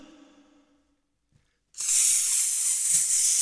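After a short tonal sound and a moment of silence, a loud snake hiss starts abruptly and holds steady, a harsh airy rush lasting nearly two seconds.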